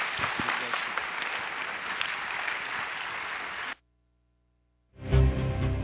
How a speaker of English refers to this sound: Round of applause. Thank you.